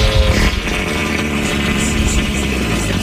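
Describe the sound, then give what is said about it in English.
A rhino breaks wind in a long, loud, deep rumble that sputters and flutters for about three seconds without letting up. No one speaks. “This is a rhino breaking wind.”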